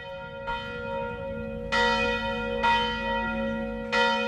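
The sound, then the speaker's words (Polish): Church bells ring out in a slow sequence of four strikes. The church has three bells, bought and hung under Father Simonaitis. Each strike leaves a long, humming overtone that hangs between blows, with a low steady drone beneath. No talking. “dzwony też zostały zakupione i powieszone tutaj w tym kościele, bo jeszcze nie było.”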